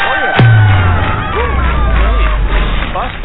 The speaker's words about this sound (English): Anyway, even though we had serious rain. Listen to that. Yes. Thunderstorms in the area. It is raining. I don't know. I can't see out the window. But it's raining somewhere. I can hear it.